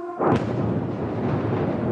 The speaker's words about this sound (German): Ein Feuerball in der Nacht über Kiew. Dann, kurz verzögert, das Geräusch der Explosion.